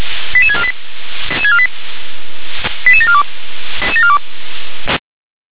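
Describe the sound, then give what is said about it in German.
Radio dispatch alerting tones from the Leitstelle Gera control centre, alerting fire brigades including Meuselwitz and Wintersdorf to an apartment fire with people in the building: quick bursts of short electronic beeps stepping downward in pitch, repeating about four times over a hissy, band-limited radio channel. “19.24 Uhr, Kehrlein Stelle Gera mit Einsatz für den KPI Altenburg, der KPM Meusewitz, Meusewitz Groß, FBM Meusewitz Feuerwehr Wintersdorf, geht zur B3.4, Wohnungsbrand mit Personen im Gebäude, Leitstelle Gera, Ende mit Alarmierung.”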